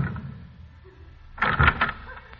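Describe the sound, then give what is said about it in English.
A door swings open and shuts: after a low, quiet rumble, a brief clattering burst of a few quick knocks and thuds, louder than what came before, then it dies away. “When I go through this door, I'm not coming back.”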